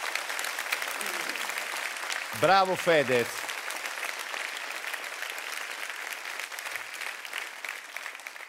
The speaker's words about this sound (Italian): Comunque, facciamo un applauso a Fedez, perché è stato un grande.